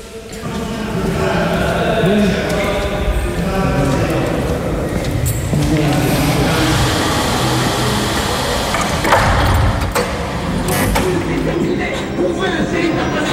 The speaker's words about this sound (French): Ce qu'on va faire, on va laisser ouvert, comme ça on aura un bruit de fond, et puis on va entendre les portes qui vont s'ouvrir. Ça résonne énormément.